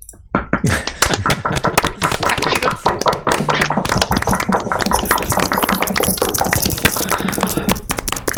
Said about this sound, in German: Und wenn euch das gefallen hat, gebt mir noch einen Applaus für meine Session.